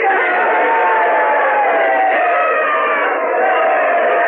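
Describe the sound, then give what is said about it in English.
A large crowd cheers wildly and continuously after George Mercer declares he will not enforce the Stamp Act, carrying him on their shoulders through the streets; a dense roar of many overlapping voices with shouts and whoops, loud and sustained without letup. “The crowd cheering wildly there.”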